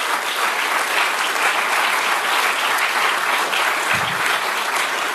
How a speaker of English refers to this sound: All right, stop clapping